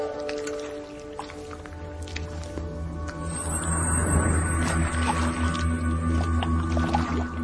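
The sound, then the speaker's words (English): Wet, squishy liquid sounds of a dog drinking water, curving its tongue into the water, pulling it up and snapping its mouth shut, a steady run of slurps and drips over a low, constant background hum that grows a little louder midway. “Dogs curve their tongue into the water to create a large surface area to stick the water to.”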